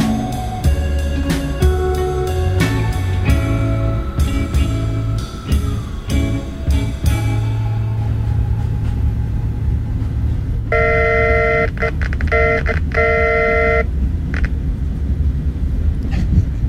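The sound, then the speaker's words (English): A model railroad train belonging to the speaker's grandfather, heard from a tape recording, runs with a steady low mechanical rumble and scattered clicks, then a bright multi-tone horn sounds steadily for a few seconds before the rumble continues. “This is a little tape recording I have of my grandpa's model railroad.”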